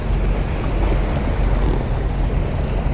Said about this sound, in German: Und ich stehe hier heute am Meer, an der Nordsee, meinem Lieblingsort. Und das Wasser fragt nicht daran, was brauchen die anderen. Es ist da, es kommt, es geht.